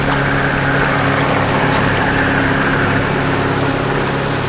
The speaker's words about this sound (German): Das Motorboot kommt direkt an uns vorbei. Achtung, das gibt große Wellen.